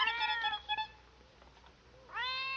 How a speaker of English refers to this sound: Sounds like a cat. Wait till I strike another match. It's our kitten. Here, kitty.